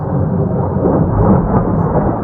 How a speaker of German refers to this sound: Ein paar Vögel zwitschern, ansonsten herrscht Stille in dieser Nacht in Damaskus. Plötzlich ist eine gewaltige Explosion zu hören.